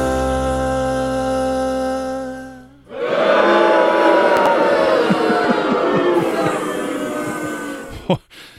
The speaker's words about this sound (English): But you just got booed.